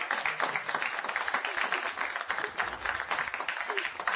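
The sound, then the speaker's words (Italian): A crowd applauds steadily, a dense wash of many hands clapping at an even, moderate loudness throughout, with no voices standing out. “Che un applauso.”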